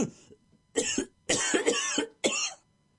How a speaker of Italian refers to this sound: Mi faccia sentire questa brutta tosse. Tossisca. Ancora?